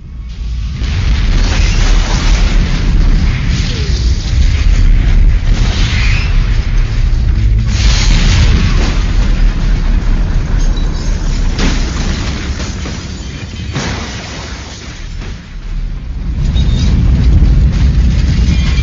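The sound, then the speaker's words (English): A massive car bomb placed underneath a vehicle erupts into a long, deep rumbling roar that stays loud for the whole stretch, with a few sharper bursts cutting through the churning low boom. “Bomb that was placed underneath the vehicle nearly vaporized the car, along with the cars on both sides of it.”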